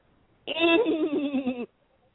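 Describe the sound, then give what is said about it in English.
A single loud, wavering yell from one person, about a second long, its pitch trembling like a horse's whinny, an attempted jungle call with no talking around it. “Oh, my God, it sounded like a horse. It sounded wicked. That sounded scary.”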